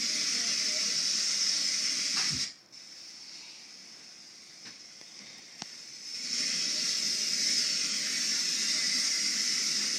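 waterfall

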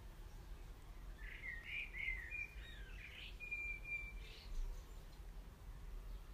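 blackbird singing

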